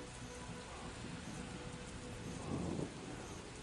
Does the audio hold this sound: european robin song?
no